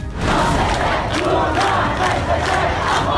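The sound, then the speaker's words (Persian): A large crowd of anti-government protesters in Iran, protesting after the Revolutionary Guards shot down a Ukrainian passenger plane, chants loudly in unison, voices merging into a dense, steady roar with rhythmic surges every half second or so, continuing throughout. “در پی سرنگونی یک هواپیمای مسافربری از سوی سپاه پاسداران، چندین شهر ایران شاهد اعتراضات ضد حکومتی بود.”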